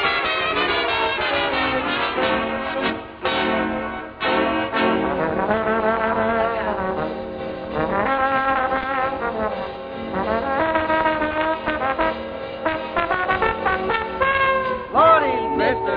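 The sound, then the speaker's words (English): A brassy trombone solo plays a lively, swinging line over a steady band, with smeared slides between notes and a final upward swoop near the end, loud. “Well, listen while I come alive and give out with that trombone jive.”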